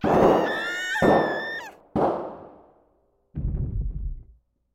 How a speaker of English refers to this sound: The sound of gunshots startled me so badly, I peed myself.